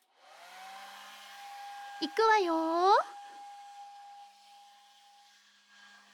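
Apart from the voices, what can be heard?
hair dryer blowing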